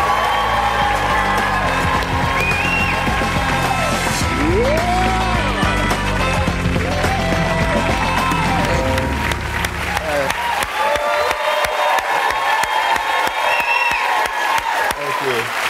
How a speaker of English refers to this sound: I don't know why I feel like I had to bow. You have to bow. You have to bow. I don't know why I did that. I'm sorry. That is the sign of humility. It's a sign of respect. I bow to the applause.